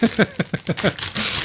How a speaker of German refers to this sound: Ja, und zu einer gemütlichen Sendung gehört eine Tüte Chips. Soll ich mal auf?